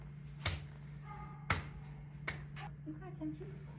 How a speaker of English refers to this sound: First, I did some ground slapping and nods to establish rapport.